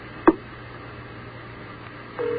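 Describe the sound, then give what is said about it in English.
Over a faint telephone-line hiss, a short sharp click-like blip sounds early on as a call connects to ask about a bus fare across a bridge, then a steady, low-pitched ringing tone begins on the line near the end. No one speaks. “As if the phone ever rings there.”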